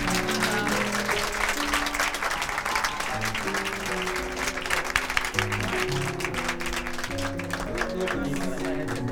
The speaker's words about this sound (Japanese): どうぞ拍手をお迎えください。